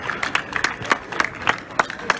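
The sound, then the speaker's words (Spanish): Audience applause welcoming a performer before he begins: a steady patter of many hands clapping at a fairly even pace, with sharper individual claps standing out over the dense wash, moderately loud and without voices. “Esto de que te aplaudan antes de empezar es como ir a un restaurante y que te den el postre antes de empezar a pedir el primer plato.”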